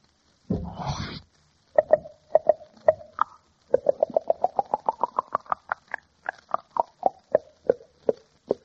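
A champagne bottle sound effect: a short rushing burst like a cork popping and fizzing, then a quick run of hollow, knocking glugs that climb in pitch and taper off, with no talking.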